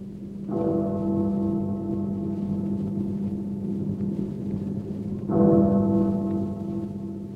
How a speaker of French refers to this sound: Minuit sonne dans le ciel d'Angleterre tout alourdi de pluie.